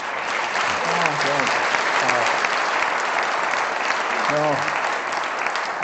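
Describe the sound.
A crowd applauds steadily throughout, a loud, dense wash of clapping that never lets up, with a few voices briefly rising above it.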